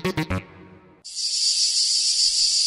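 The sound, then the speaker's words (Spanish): A cicada's shrill, steady buzz in a UPB Radio jingle for the show La Chicharra starts abruptly and drones on loud, just after three quick percussive knocks at the very beginning. “La Chicharra canta cada divendres en UPB Radio a les 4 i mitja de la vesprada.”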